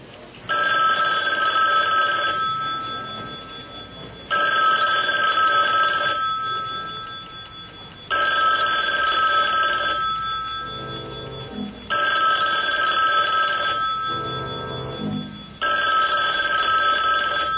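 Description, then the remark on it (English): A telephone rings over and over in steady bursts of about two seconds, separated by short pauses, clear and fairly loud, with faint background murmurs between some rings. “You gonna answer the phone?”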